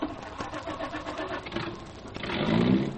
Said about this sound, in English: That is, if I can get the car started. Sometimes this thing sticks.